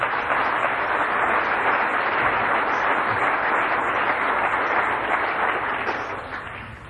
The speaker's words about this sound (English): If you agree with that, clap your hands.